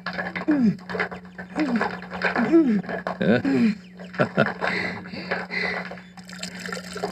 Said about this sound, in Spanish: Sí, tienes muchísima razón. Con menos esfuerzo sacamos el agua del pozo.